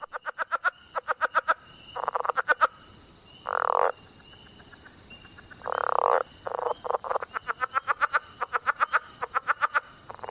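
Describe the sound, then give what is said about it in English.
A leopard frog gives rapid chuckling calls, runs of quick pulses alternating with longer snore-like croaks, clear over a quiet background, with no one talking. “Like this chuckling leopard frog, a favorite of Tom Crone's.”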